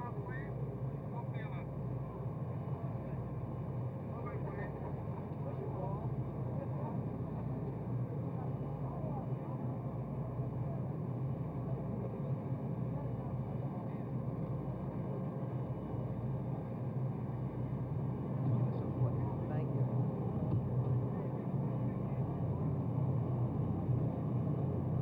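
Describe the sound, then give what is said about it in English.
The Pope's motorcade cars rumble in front of an airplane in a steady, low engine drone with a faint rhythmic throb, while indistinct voices of a small crowd murmur underneath throughout. “The Pope's motorcade now in front of the airplane.”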